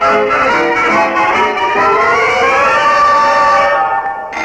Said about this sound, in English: Oh, my goodness. That doorbell is waking Daddy up, Baby Duncan. Hurry and open the door.